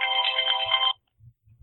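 A phone ringtone plays a bright, warbling electronic melody for just under a second, fairly loud, then cuts off abruptly, leaving faint low rumbles.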